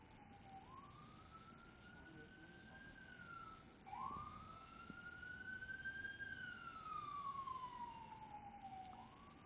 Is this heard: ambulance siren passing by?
yes